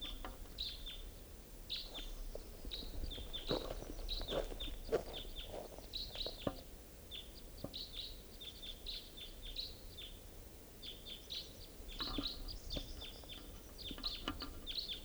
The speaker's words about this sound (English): Two birds. And the caller is in the Douglas fir.